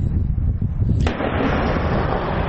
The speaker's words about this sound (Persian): صدای توپخانه ارتش اسرائیل که جنوب لبنان را هدف قرار داد.